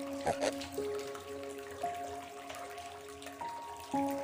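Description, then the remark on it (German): Warm water with bubble bath pours steadily into a bathtub, a continuous splashing trickle with ringing, hollow tones that shift in pitch as it fills, plus a few louder splashes; moderately quiet. “Als die Wanne voll ist, stellst du das Wasser ab und ziehst dich aus.”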